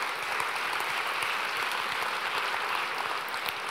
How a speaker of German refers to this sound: Das ist Ihr Applaus. Herzlich willkommen.